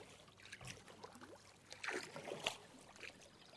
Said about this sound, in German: Aber noch paddeln wir entlang der Grenze. Am linken Ufer Spanien. Der Nationalpark Arribes del Duero, wie der Fluss auf Spanisch heißt. Am rechten der portugiesische Nationalpark, Douro Internacional.